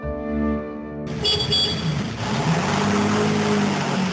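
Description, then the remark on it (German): A car drives along with a steady, rumbling engine and road noise that holds for a few seconds, following a brief sustained tone at the very start. No one speaks. “Mit dem Auto.”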